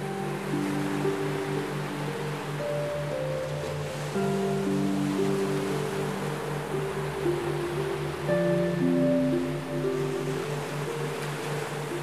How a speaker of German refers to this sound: Als du oben stehst, schaust du hinunter auf das wild tobende Meer.